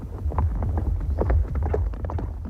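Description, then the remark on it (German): Horse hooves clip-clop at a walking pace, several overlapping steps in an uneven rhythm, over a steady low rumble with no talking. “Das sind Pferde.”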